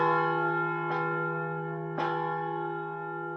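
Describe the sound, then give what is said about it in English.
A large church bell hums with a rich, sustained ring after its last stroke, its tones slowly fading, while two soft, light strikes tap in briefly along the way. No voices. “Radek Lunga, who began studying bells in the early 1990s, explains the sound of the bell after the last stroke says a lot about the quality of each bell.”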